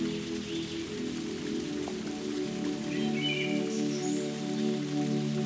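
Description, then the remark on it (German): A distant waterfall splashes onto rock in a steady, unbroken rush of water. A low sustained drone hums underneath, and a few faint high chirps appear briefly near the end. “Gehst Schritt für Schritt ein wenig tiefer und hörst etwas weiter weg einen Wasserfall, der auf einen Felsen plätschert.”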